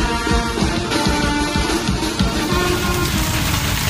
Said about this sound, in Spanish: Ha empezado a llover en Tarragona. La tormenta vacía las calles.